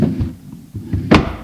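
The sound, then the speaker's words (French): A wooden kitchen table drawer slides and bumps shut with a solid thunk near the end, after a few soft scraping movements, fairly loud, as a washed and dried knife is put away in it. “L'essuya et le mit dans le tiroir de la table.”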